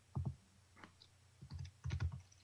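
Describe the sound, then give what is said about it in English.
Clusters of quick computer keyboard keystrokes come in irregular bursts with short pauses between them, clicky and fairly loud, with no talking. “Who's seriously typing away to find this out?”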